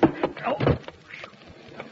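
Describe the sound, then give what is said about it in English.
A door opens with a couple of clattering knocks and a scraping rattle in the first second, followed by a quieter stretch of faint background noise. “Hey, open the door”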